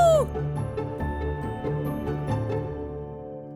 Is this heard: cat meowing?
yes